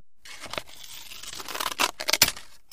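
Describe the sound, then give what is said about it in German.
Crisp scissors cut a large piece of new, colourful paper around a kite frame on a kitchen table: a steady papery rustle broken by several sharp snips that grow louder and quicker toward the end. No one speaks. “Dann schneidet sie rund um das Kreuz Papier ab.”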